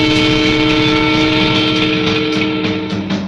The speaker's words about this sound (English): Watch out for the train.